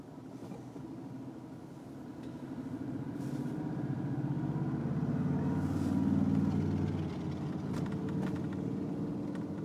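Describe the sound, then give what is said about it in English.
Steady low rumble of street traffic on a cold night, swelling as a vehicle passes around the middle, then settling back into a constant engine drone with no one talking. “But they're probably pretty dedicated to keeping traffic flowing through here, so.”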